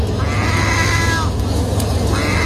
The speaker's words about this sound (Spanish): Esto, ya te digo que no es lo que parece, porque podría parecer un gato un poco cabreado, pero en realidad es una gaviota que imita a un gato. Un gato ronco. No, es una gaviota que ha aprendido a imitar al gato.